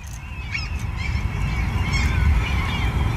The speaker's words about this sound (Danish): Der er ikke noget som fuglene, der piber herude i Mileparken, når man møder ind om morgenen.